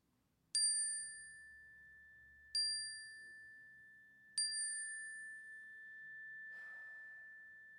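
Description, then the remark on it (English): A bright chime is struck three times at a slow, even pace during a church service, signalling the audience to speak their joys and burdens aloud, each strike ringing out with a sustained metallic tone that lingers and overlaps the next, then fades into quiet. “This morning, let's take a moment to consider the joys and burdens that we are carrying, and at the sound of the chime, let's speak them aloud.”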